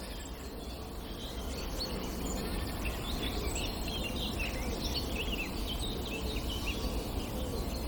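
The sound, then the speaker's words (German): Great tits scold with repeated harsh, chattering calls, layered over a steady outdoor hiss of insects and ambient noise, with no voices present. “Die Meisen schimpfen. Kohlmeisen hier vor mir.”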